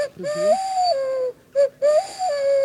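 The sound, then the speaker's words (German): A person imitates a stock dove's cooing: a long, breathy, mid-pitched hoot that dips and rises, a short hoot, then another long one, with no talking. “Ja, da macht man eine Hohltaube nach.”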